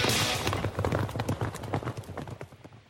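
Rapid, thundering hoofbeats of horses galloping, a dense rhythmic pounding that is loud, tapering slightly toward the end.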